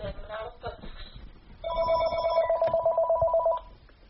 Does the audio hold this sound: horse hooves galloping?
no